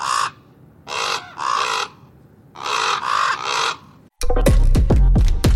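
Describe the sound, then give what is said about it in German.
A raven calls with five loud, harsh croaks: two quick ones, a pause, then three more in a row, before a sudden burst of a different, busier sound cuts in. “Und als Infotier haben wir in dieser Woche den Raben.”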